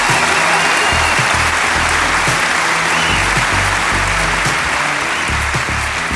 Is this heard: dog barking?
no